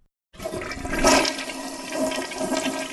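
A toilet flushes with a sudden loud rush of water that peaks early, then settles into a steady swirling drain, with no voices.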